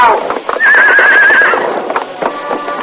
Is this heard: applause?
no